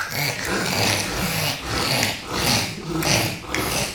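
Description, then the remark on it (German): A child makes a rough, croaking sound in the throat, repeated in several rasping pulses for a few seconds, fairly loud with no talking. “Und wo habt ihr das Geräusch gemacht? Das Krächzen.”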